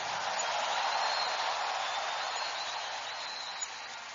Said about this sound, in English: Give the Lord a bigger clap and a louder shout of praise.